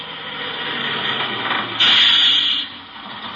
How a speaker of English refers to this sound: I haven't ridden a bus in a long time. Well, here it comes, right on schedule.